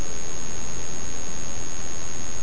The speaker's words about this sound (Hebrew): צליל המכונית שברקע.